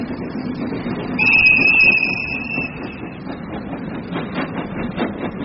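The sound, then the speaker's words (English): A steam train on a journey to Dundalk Station rumbles steadily along the rails, a high whistle sounding briefly near the start, then a rhythmic clickety-clack of wheels over track joints toward the end. “On a steam train journey to Dundalk Station”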